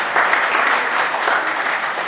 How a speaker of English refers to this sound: That definitely needs a round of applause.